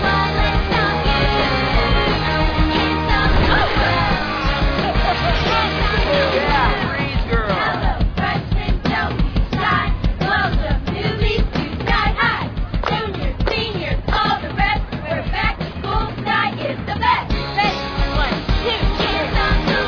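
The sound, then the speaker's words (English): A large crowd roars and cheers without pause, dense and loud throughout, with scattered yells and whoops rising out of the steady wash of voices. “That cheer.”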